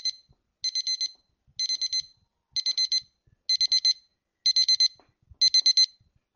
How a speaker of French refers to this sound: Bah, pour être classique, je dirais celui de mon réveil.